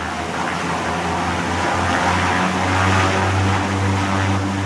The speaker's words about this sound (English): which can easily be transported by small planes taking off from the single tarmac road, which sits deep in the bush.